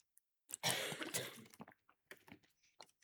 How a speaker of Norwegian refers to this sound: Nå jeg kommet videre, og nå må jeg drikke litt vann.